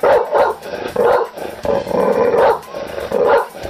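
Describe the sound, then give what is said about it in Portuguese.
A dog barks loudly and repeatedly, a rapid series of sharp barks with a few drawn-out, yelping ones mixed in, with no one speaking. “O cachorro daqui de casa já tá avisado. Se aquele preguito, presepeiro sem futuro aparecer no portão, lata pra ele como quem late pra ladrão.”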